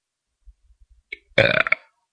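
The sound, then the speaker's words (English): A loud burp rumbles out for about half a second, preceded by a few soft low gulps and clicks as air is swallowed. No talking. “You don't mind if I burp, do you?”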